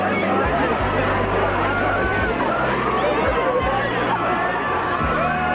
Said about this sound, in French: Écoutez les cris de la foule quand le cercueil de Claude François est sorti de l'église d'Auteuil.